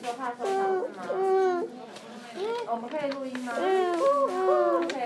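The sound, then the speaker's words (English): A young child vocally imitates birdsong with a series of high, sliding, warbling tones, fairly loud, repeated several times in short bursts without any real words. “You hear the birds? Yes. What's the sound of the birds?”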